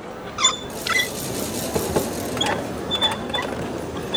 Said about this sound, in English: Next up on stage, we've got a perky secretary who's tappity-tap-tapping her way to stardom at a typewriting competition. This is Populaire.